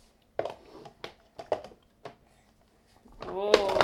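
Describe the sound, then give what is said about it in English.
A toy block tower, built by a mother, is knocked down by a child and topples with a scattered series of sharp wooden clacks and thuds spread over a couple of seconds, followed by a voice speaking. “Oh, you knocked it down.”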